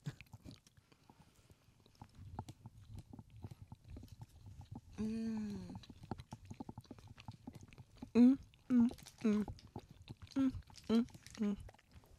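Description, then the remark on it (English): Soft chewing of Niederegger marzipan, dense and sticky, a steady wet mastication under short hummed vocal sounds of enjoyment that come in a cluster toward the end. “Wow. I've never had anything like it. Mm-hmm. It's unto itself. Niederreger.”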